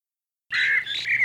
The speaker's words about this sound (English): What is that fucking noise? It's driving me nuts. It's just the birds, Mr. Arnold. The only birds I like are quiet birds who don't cause trouble.